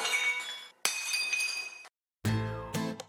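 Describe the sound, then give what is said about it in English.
Porcelain coffee mugs, hurled one by one from a tray at a man, shatter in three loud crashes separated by brief pauses, each break ringing with bright, clinking shards as pieces scatter and settle. No voices. “Grabbing the tray, he began hurling the mugs at Bagby, and to the accompanying sound of erratic, out-of-control shooting, hoots, howls, and shattering porcelain, drove his assailant into the street.”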